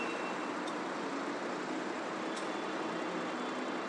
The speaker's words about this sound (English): Okay, sounds like we've got queuing traffic on the other side of this junction. Bus creaking over there.